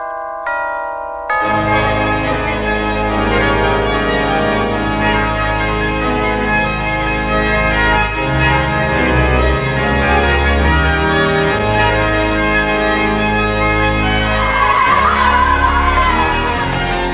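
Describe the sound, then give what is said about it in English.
The opening theme tune of a TV comedy series, played on the Wurlitzer organ of the former Empress Ballroom in Manchester, loud and busy with bright, bell-like tones, plays continuously after a brief quieter opening, with occasional sound effects from the on-screen visuals, such as screeching tyres, mixed in. “Anyway, here's 50 seconds worth of the opening theme tune, and the background sounds you'll hear come from the visuals which were playing as the theme tune was heard.”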